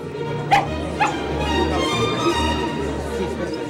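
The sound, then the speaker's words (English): A small dog, carried around on a lady's wrist as if part of her Paris dress, gives two sharp, high yips about half a second apart, then goes quiet while a steady murmur of conversation and low background sound carries on underneath. “carries that dog around as if it were part of her dress.”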